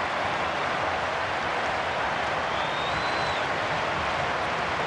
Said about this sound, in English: Justifiable applause all around Old Trafford for a scintillating piece of Manchester United play.